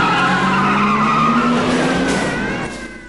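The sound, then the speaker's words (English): A car roars away with tires screeching loudly as two people covered in pink slime drive off in it, a sustained squeal over revving engine noise that fades slightly at the end. “The professor and his sidekick, covered in pink slime, get in their car and drive off.”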